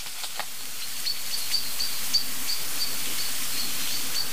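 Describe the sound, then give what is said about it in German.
A bird call: a string of short, thin, high-pitched chirps repeating at uneven intervals, faint over a steady background hiss, with no voices. “Aber wo ist dieser Vogel hingeflogen?”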